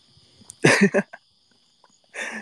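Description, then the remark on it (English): A steady, high-pitched cricket trill drones on continuously outdoors during a walk along a sidewalk, interrupted by a couple of short, louder bursts of rustling noise. “Are the crickets that loud, really?”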